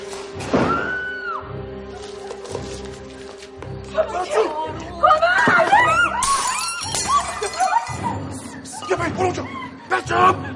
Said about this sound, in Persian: چرا جیغ و داد میکنی؟ ساکت باش.